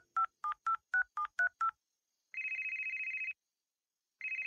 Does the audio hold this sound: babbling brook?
no